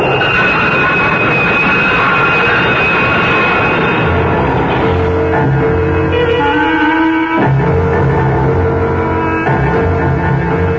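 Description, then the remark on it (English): A train roars into a station platform, a loud, steady rumble layered with shrill metallic screeching tones that shift pitch partway through, continuing without any voices. “Caught off balance, Deke's foot slipped off the edge of the platform, and Deke started to fall helplessly in the path of the onrushing train.”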